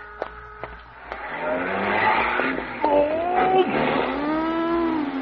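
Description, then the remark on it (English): Tires screech loudly in a long, wavering squeal as a car with an out-of-state license skids hard in street traffic, preceded by a few sharp clicks, the squeal rising and holding for several seconds. “Watch out where you're going. Out-of-state license.”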